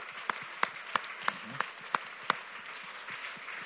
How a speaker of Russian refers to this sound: Ну что, друзья, мы провели отличную работу. Отличные выяснения. Давайте поаплодируем друг другу. Аплодируем. Замечательно все прошло.